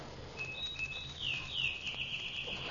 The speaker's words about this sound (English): And that bird. Robin or sparrow or whatever he is. What's a bird doing here in November? Off to Palm Beach, bird. Maybe he's doing the same thing we are. Just came out to look at the view.